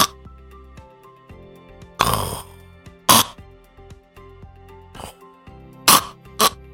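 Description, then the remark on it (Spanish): A voice imitates sleep apnea breathing, in which breathing stops for ever longer lapses and then starts again: harsh, snorting gasps burst out in short rough bursts, separated by stretches of near silence where the breath seems to stop before restarting. “O sea, tenía ya apnea del sueño, que ya es un problema con este trastorno, en donde se detenía mi respiración para comenzar de nuevo.”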